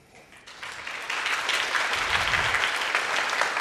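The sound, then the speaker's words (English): Applause from the audience of a radio talent show swells quickly from a light patter into a steady, dense roar of clapping that holds loud and even for several seconds, with no voices over it, the audience choosing the evening's winner. “And, as measured by your applause this evening, you've clearly decided our winner for tonight's show.”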